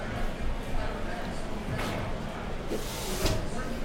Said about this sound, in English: Door opens, and we all go quiet.